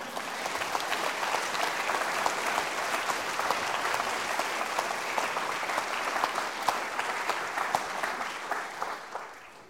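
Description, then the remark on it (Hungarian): Sustained audience applause at a Christmas music concert, a dense steady patter of many hands clapping at even loudness for nearly ten seconds, tapering slightly at the very end, with no voices over it. “aki sok-sok világ és nemzetközi versenygyőztese is, de gyengélkedik, és ezért éppen most is egy kis szünetet kért, hogy itt a tapsot én fogadjam helyette.”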